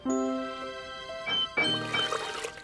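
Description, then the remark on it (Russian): A short bright tinkle rings out, then water from a kitchen tap is turned on to wash dishes, running in a steady, fairly loud splashing stream, with no one speaking. “А мы будем посуду мыть? Конечно, раз уж взялись помогать, добьем все до конца. Добьем? Я имел в виду, доведем все до конца. Верно, Лунтик? Открывай кран.”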